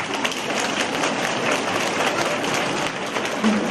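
Sustained audience applause, a dense wash of many hands clapping at a steady, even loudness for several seconds with no break.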